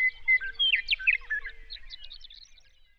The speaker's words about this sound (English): Start your morning with beautiful birdsong, 7 days a week.